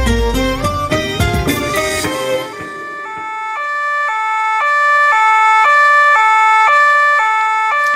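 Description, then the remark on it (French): After a brief loud, busy burst, police sirens blare their two-tone pattern, alternating high and low notes steadily and loudly for several seconds, as at the opening of the novel 'Le ventre des hommes', with no one speaking. “Alors c'est avec ces sirènes de police, ces hommes en bleu et le cliquetis des menottes que vous accueillez les lecteurs de votre roman.”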